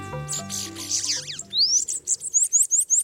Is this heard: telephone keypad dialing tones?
no